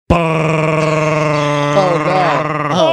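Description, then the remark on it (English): A voice imitates the air conditioning of a used car with a loud, steady, buzzing drone held for almost three seconds, wavering and sliding upward in pitch toward the end. “Used car with the wonderful air conditioning that goes like this.”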